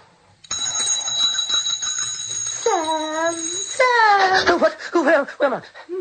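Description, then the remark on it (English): A bell rings continuously with a steady, shrill metallic tone from the start, in a South African radio drama, while drawn-out vocal sounds, like groaning or moaning voices, rise and fall over it during the second half. “Why did you ring the bell?”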